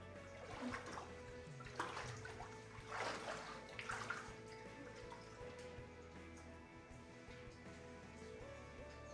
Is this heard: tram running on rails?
no